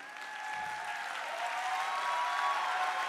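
Steady applause from an audience listening to a preacher, a dense wash of many hands clapping that swells slightly and holds at a moderate level, with no distinct voices standing out.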